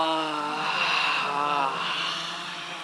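During a guided breathing exercise, a single long, breathy exhale voiced as a deliberate, drawn-out "haaa", held at a steady low pitch for nearly three seconds before tapering slightly at the end, with no other talking.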